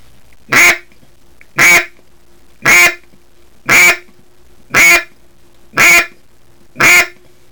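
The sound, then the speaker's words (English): A duck call is blown in its right end in a steady series of seven loud, nasal quacks, evenly spaced about a second apart, with no talking. “Then turn it around and blow the same thing in the right end of the call.”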